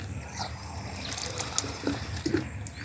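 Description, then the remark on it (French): Water runs from a tap into a plastic jerrycan, a steady trickle with scattered small splashes and drips over a faint background hiss. “Regardez mon bidon, je ne gaspille pas l'eau. Je prends l'eau toujours au robinet.”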